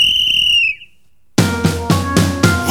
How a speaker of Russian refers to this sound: Вот опять кто-то вылез на встречную, и звучит милицейский свисток.